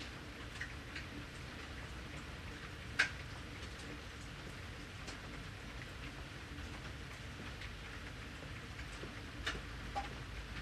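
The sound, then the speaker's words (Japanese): Steady rain falls in a soft, continuous hiss, with scattered louder drips and taps landing irregularly, one sharper tap standing out near the start. No voices. “雨止んだら首輪買いに行こうな。”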